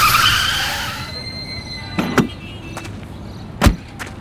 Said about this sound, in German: In diesem Moment preschte ein Taxi auf den Platz und hielt mit quietschenden Reifen direkt vor der Polizeiwache.